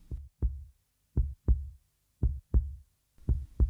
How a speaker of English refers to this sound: Everything so quiet. The only thing I could hear was my heart pounding in my ears.